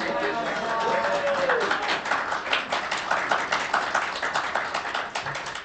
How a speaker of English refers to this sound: I love that's the first time we've ever had applause.